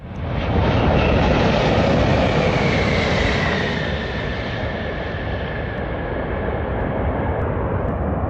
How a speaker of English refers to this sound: Out here on the taxiway at Denver International Airport, we just watched the biggest passenger jet in the world land with the Rocky Mountains behind him.